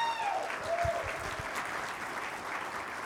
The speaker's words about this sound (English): She is retiring from being a treasurer of the church. Can we give her a round of applause?